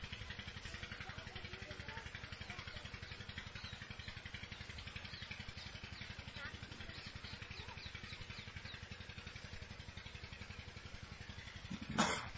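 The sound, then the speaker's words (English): A water pump runs steadily, a continuous mechanical hum with a fast, even pulsing chug, and a brief sharper clatter right at the end. No voices. “Our first exercise is to direct all of our attention to the water pump.”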